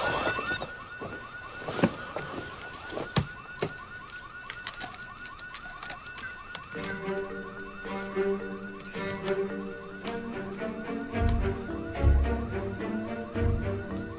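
A security alarm system blares continuously, its rapid, repeating warbling tones cycling loud, with other sustained tones and low thuds joining partway through. No one speaks.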